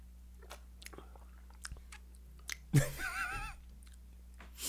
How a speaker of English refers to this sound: All right, before we get into discussion, let's just do first sips.